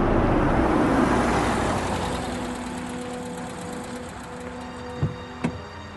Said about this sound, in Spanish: Mira, allí viene un auto de la policía.